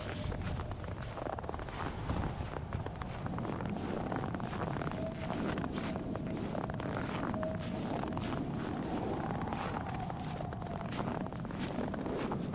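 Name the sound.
howling wind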